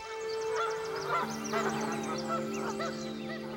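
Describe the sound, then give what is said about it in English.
A dense flock of migrating geese honking continuously as they pass overhead, many overlapping calls forming a noisy, fairly loud chorus, with no talking. “And nothing would inspire more awe than a sudden blizzard of millions of ducks and geese passing overhead on the way to some mysterious migratory destination.”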